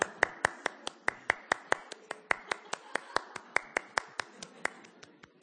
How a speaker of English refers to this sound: And we'll be instructed, let's give the Lord a praise. And what do? We do this. And if you're really spiritual, you clap longer than everybody else.